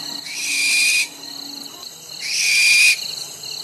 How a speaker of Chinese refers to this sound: 而猫头鹰经常在黑漆漆的夜里低沉规律的叫着，可是很少人看过它的本尊耶。